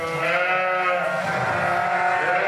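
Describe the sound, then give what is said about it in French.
Several ewes bleat in a long, overlapping chorus, loud, with a steady background hum and no talking, in a milking parlour where the ewes wait on the second platform to be milked. “va de l'autre côté sur le second quai pour traire les autres brebis qui sont en attente sur ce côté-là.”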